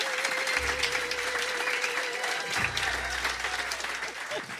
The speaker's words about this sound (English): Good evening, everybody. By a round of applause, please.